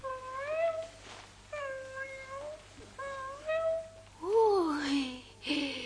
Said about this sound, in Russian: Какой котеночек тут!